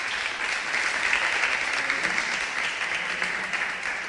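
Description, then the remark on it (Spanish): An audience at an event applauds steadily as an Endesa director is called to the stage, a dense, even wash of many hands clapping at once that holds at a fairly loud level throughout without fading. “Un fuerte aplauso.”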